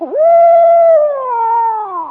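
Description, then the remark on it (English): A person imitates a scary owl screech with one loud, drawn-out, wavering cry of about two seconds that slides slightly downward toward the end, heard alone. “Then sometimes when he wants to scare you, well, then he'll go like this.”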